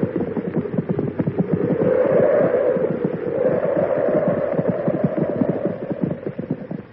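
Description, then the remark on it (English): Horse hooves clip-clop steadily for the whole stretch as horses, one named Brutus, are led inside out of a snowstorm, several animals' footfalls overlapping into a dense, uneven clatter with no voices. “Oh, bring the horses in, too.”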